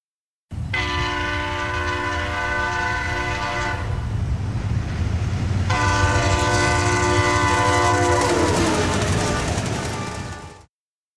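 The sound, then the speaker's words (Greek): A train rumbles past while its horn blares in two long, loud blasts separated by a short gap, with the low roar of the cars continuing underneath. “Τρένο.”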